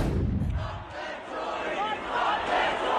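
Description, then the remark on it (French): A large crowd of young Scots shouts and roars angrily on Buchanan Street in Glasgow, Scotland, after Boris Johnson's election win sealing Brexit, a dense, continuous wall of many raised voices that swells and stays loud throughout, with a heavy low rumble at the start. “Une foule nombreuse et qui crie sa colère sur Buchanan Street, l'une des artères les plus célèbres de Glasgow.”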